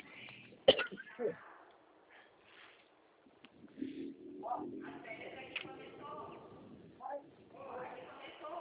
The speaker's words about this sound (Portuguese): Ah, um momentinho só que eu tô tossindo, já eu falo com você, tá bom?